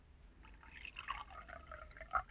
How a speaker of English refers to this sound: Why don't you drink some black coffee? Here, I'll pour you a cup.